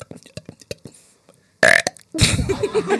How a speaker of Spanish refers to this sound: Mi hermano, cuando yo tenía 8 años, me enseñó a eructar, mira. ¿Cómo es? Hago uno duro, pasito. Mira, hago esto.